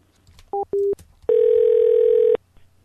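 A telephone dial tone after a hang-up: two quick electronic beeps, then a loud, steady, even-pitched tone that holds for about a second before cutting off. No one speaks.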